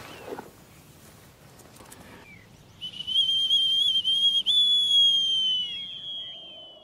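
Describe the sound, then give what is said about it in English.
A shrill, steady falconer's hawking whistle, used to call a hawk back and full of dirt, is blown once and held for about three seconds, bright and piercing with a slight wobble, after some soft handling noises near the start. “That's Hawking whistle. A falconer would use that, call his bird back.”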